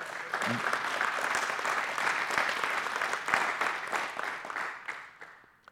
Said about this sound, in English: Do you believe that? Do you believe that? Give the Lord a big round of applause if you believe that.